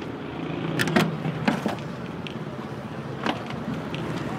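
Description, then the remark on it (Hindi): A car heard with a steady low rumble and several sharp clunks and clicks as the car's trunk is opened for luggage. Nobody speaks. “आप बस गाड़ी की डिग्गी खोल दें, सामान मैं खुद रख लूंगा।”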